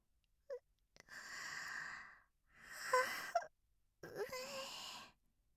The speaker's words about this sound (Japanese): あらあら、かわいいあくびね。